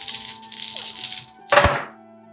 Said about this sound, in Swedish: Varsågod och rulla. Kör på. Jag har 4 D6er och det där Favored. Många tärningar.